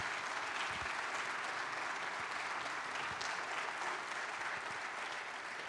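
An audience applauds steadily, a dense wash of many hands clapping at an even level for several seconds with no voices standing out.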